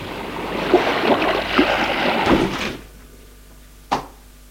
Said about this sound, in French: Il monte les marches. Elle va ouvrir la porte d'entrée à deux battants.